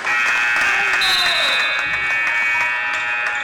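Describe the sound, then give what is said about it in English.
A loud, sustained basketball arena buzzer blares without a break for several seconds at the end of the second quarter and first half, Huskies vs Eagles, after a made two-point shot; its harsh electronic tone steady and piercing over a faint murmur of crowd noise. “Peter up for two, and it's good for the buzzer.”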